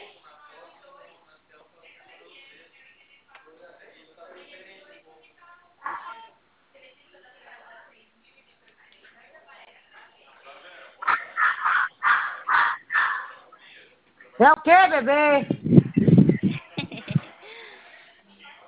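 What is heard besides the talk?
small dog barking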